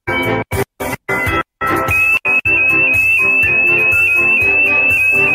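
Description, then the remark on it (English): A social-distancing sweater's proximity alarm, which goes off when someone gets too close, blares loudly in short choppy bursts, then settles into a continuous high-pitched wail layered over a dense, jangling wash of noise. No one speaks. “Oh yeah, it's a sweater that alarms go off if you get too close.”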